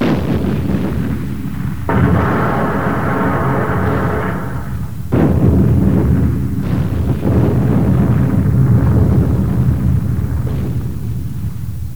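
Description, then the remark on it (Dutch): A bomb explosion in a branch of a supermarket chain: a heavy, roaring blast rumbles on for several seconds, with a few fresh bursts layered over the din, loud, with no voices. “Zojuist ontvingen wij het bericht dat een bomexplosie grote schade heeft aangericht in een filiaal van de Hyper Super Spa supermarktketen.”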